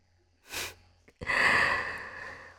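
heavy panting breaths

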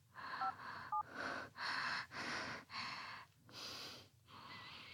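telephone keypad dialing tones

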